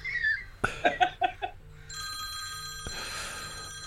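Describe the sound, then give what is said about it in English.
A phone rings with a rapid series of bright, warbling electronic chirps in a quick burst, followed by a steady high-pitched electronic tone that sustains until the end. “Good phone call”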